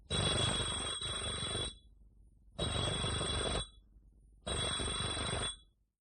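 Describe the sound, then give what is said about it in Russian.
A doorbell in Moscow is rung three times by a lion, in long, buzzy bursts of about a second or more each, separated by short pauses. It is loud, with no talking. “Идет по улице, заходит во двор. Звонит Кашиным 3 раза.”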